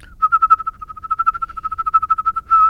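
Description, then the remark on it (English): A steady, mid-pitched whistle that swells and fades in quick rhythmic pulses, whistled on both in-breaths and out-breaths without stopping as a whistling technique. It is fairly loud, with no talking. “Inhaling and exhaling.”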